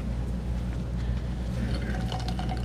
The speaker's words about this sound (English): Said all that to take my dramatic pause and take a drink of water.